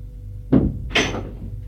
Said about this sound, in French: La porte s'ouvre.